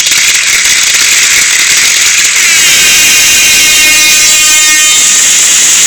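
Loud, rapid gunshot sound effects rattle off in a dense, continuous volley for several seconds, harsh, with no talking over them.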